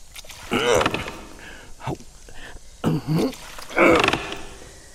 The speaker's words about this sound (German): Das wird der Heizungskeller sein. Geh mal ein Stück zur Seite, damit ich die Tür aufkriege.